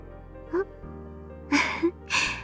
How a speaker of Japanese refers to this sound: 大きなあくび。あなたも同じようですね。